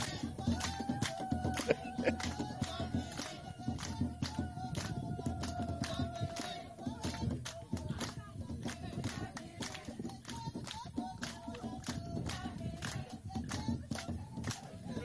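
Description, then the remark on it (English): Worshippers at a church in West Africa stomp their feet in a steady, driving rhythm, each heavy thud sharp and evenly spaced, with music and voices sounding underneath throughout. “We call it the stomp.”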